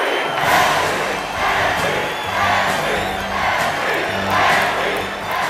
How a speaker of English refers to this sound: In the stands, Henry's mom, George, Clark, and Mr. Carson clap and chant.